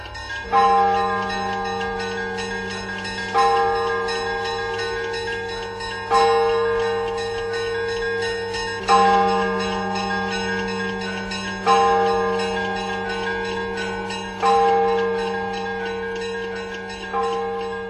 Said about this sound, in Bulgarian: Трябва да е неделя, сутрин. Сигурно е така, камбаните.